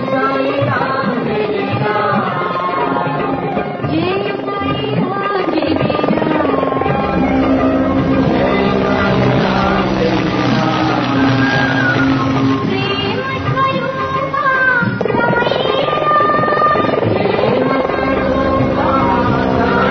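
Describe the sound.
A helicopter drones loudly and steadily overhead as Swami showers flowers from it onto his parents' samadhi on his birthday, its buzzing rotor noise filling the scene while devotees' voices and crowd murmur mix underneath throughout.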